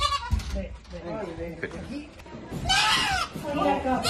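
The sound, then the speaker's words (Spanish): A goat bleats loudly and repeatedly in harsh, strained cries as firefighters try to immobilize it to bring it down to the street, with a long wavering bleat near the end over background voices and scuffling. “Eso que oyes son los gritos que pegaba mientras los bomberos intentaban inmovilizarla para poder bajarla a la calle y que los veterinarios pudieran llevársela.”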